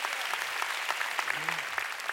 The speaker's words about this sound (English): Oh, come on, you want to clap? Give the Lord a big hand. Hallelujah.